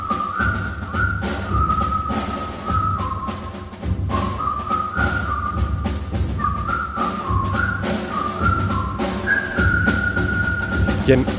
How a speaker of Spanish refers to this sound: ¿Quién no recuerda el comienzo de esta película con todos los soldados con las botas destrozadas y con los silbidos? Y la verdad que una melodía que podríamos salir a la calle. ¿Quién no la ha silbado? ¿Quién no la ha silbado esto en alguna ocasión?